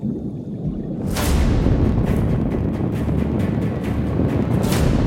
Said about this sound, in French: Échoué à cause d'une explosion à 108 mètres de profondeur, avec 118 personnes à bord. Voici le destin tragique d'un sous-marin réputé infaillible, le Kursk.